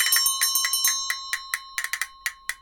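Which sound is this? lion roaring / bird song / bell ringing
bell ringing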